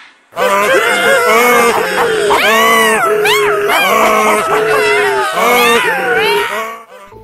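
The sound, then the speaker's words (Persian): A loud, chaotic chorus of overlapping cries of a donkey, dog, cat and rooster (braying, barking, yowling and crowing), voiced by people imitating the animals, who stand stacked on each other's backs at a window, blaring continuously for several seconds before cutting off. “اونا اومدن پشت پنجره، الاغ اونجا وایستاد. بعد سگ پرید پشت الاغ، گربه هم پرید پشت سگ، خروس هم پرید پشت گربه. همگی با هم شروع کردن به فریاد کشیدن.”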